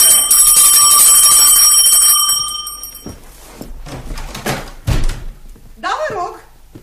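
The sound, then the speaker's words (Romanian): A small bell on the gate of a house at number 18 rings brightly for a few seconds with a shimmering metallic tone, then fades into clattering, knocking noises and voices. “Are clopoțel la poartă.”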